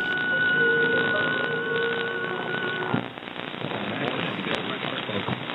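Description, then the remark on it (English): An AM radio dial sweeps across stations on a recording of everything on the AM broadcast band on one day: steady whistling tones fade into loud, crackling static with fragments of muffled voices, all sounding thin and tinny. “So I'll just tune through it, like as if I were tuning live radio.”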